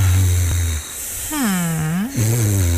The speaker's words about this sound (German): Quält sie vielleicht auch Nacht für Nacht, wenn sie es hören müssen vom Partner. Ja, das lässt uns dann meist kein Auge zumachen. Aber kann Schnarchen gefährlich sein?